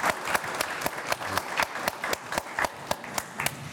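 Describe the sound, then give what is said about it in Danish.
An audience gives a big round of applause to welcome a guest, steady for a few seconds, many hands clapping together in a dense, crackling patter with a few sharper claps standing out, and no one speaking over it. “Jeg synes, vi skal starte med at give en kæmpe klapsalve, fordi du er her.”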